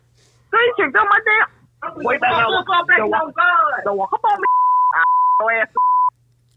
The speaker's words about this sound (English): I'ma for sure beep that out. We're gonna for sure take that out.